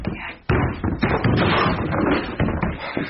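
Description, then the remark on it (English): A door is forced open: a sudden loud crash followed by a dense run of heavy thumps, bangs and clattering that keeps going for a few seconds, with no talking. “The door! It won't open, sir! Out of the way, Anderson. Coming through.”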